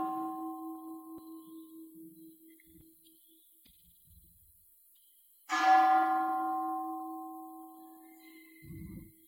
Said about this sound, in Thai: ฟังเสียงระฆังฟังแล้วดูซิมีสติปัญญาอะไรบ้าง